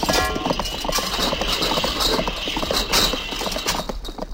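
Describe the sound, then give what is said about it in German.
A horse ridden by a hussar gallops away, its hooves striking in a rapid, uneven clip-clop rhythm that stays fairly loud and steady throughout, with no voices over it. “Der Reiter aber jagte davon.”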